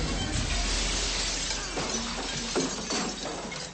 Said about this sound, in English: flings him through the brilliantly lit plate glass window of an electrical lighting shop.